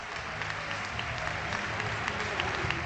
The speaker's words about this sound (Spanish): Vaya liberación, 27 partidos después, gana el Levante y la gente lo aplaude así.